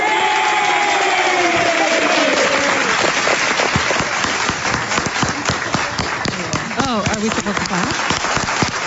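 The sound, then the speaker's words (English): A crowd bursts into loud, dense applause, many hands clapping rapidly and continuously, with cheering and whooping voices rising over it at the start and again near the end. “More clapping.”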